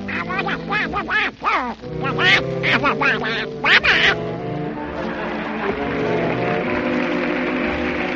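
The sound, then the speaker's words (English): Walt Disney's Donald Duck, a raspy, quacking cartoon duck voice, sputters out a short run of garbled syllables bidding good night for a few seconds, loud, before steady band music carries on underneath and alone. “That was Walt Disney's Donald Duck bidding you good night.”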